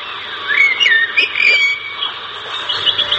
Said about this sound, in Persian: پرنده ها جفت جفت با آسمان میپرند و چیخ چیخ میکشند و خوش میخوانند.